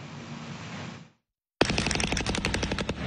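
A steady rushing noise stops abruptly, and after a brief silence a loud burst of machine-gun fire erupts in neighborhoods of western Caracas, Venezuela: rapid, tightly spaced sharp shots that continue without a pause to the end.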